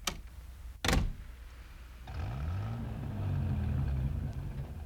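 car engine running

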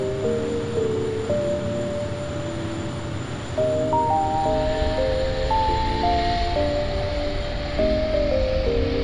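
airplane taking off

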